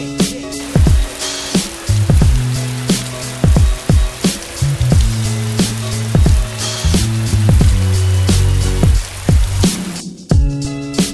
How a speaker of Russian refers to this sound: По ту сторону окна идет дождь, который день очень мрачно, а сила грусть на душе.